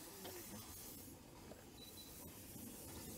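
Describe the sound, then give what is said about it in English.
A steam locomotive starting off hisses steadily as steam vents at the front from its open cylinder drain cocks, a loud, continuous rush of noise with faint mechanical clanks underneath and no voices. “We have some drains are open, so we have some steam at the front visible as we start.”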